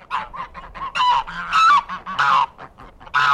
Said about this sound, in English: Outside the city, ecologist Manuel Guerra lives away from the pollution, on a farm with a flock of noisy geese and some rescued deer.